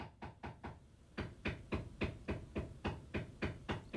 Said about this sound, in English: But they need to also be respectful of the neighbors in the building, and pounding nails into the wall next to the radio studio is not the way to do that.